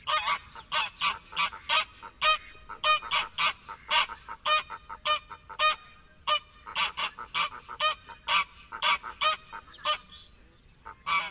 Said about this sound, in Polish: Oto gęganie zaaferowanej pary ptaków na lęgowisku. Pojedyncze, niższe gęgania w tle wydawane są przez samice.